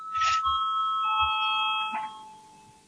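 parliament voting bell chime

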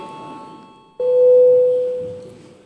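parliamentary voting bell ringing

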